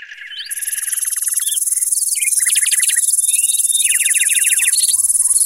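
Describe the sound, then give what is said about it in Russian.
Grasshoppers chirp on an evening as the stars come out, in a dense, steady high-pitched chorus with rapid rhythmic trills layered over it and a few scattered bird calls, moderately loud with no talking. “Кузнечики поют. Давай помолчим и послушаем.”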